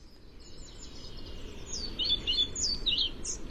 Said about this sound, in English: The pied flycatcher is a forest bird. These summer visitors from West Africa can be seen flitting in and out of dappled light of ancient and mature woodlands of North and West Britain.